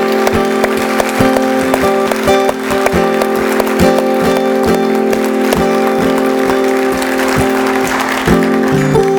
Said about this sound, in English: could we give God a real hand clap of praise? Oh, come on. You got better than that. Come on.